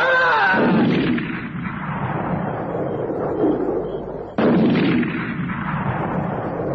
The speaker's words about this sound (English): The shots blasted holes through the tent, tore the top of the tent right away